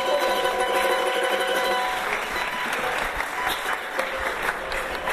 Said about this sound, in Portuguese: A gente vai aplaudir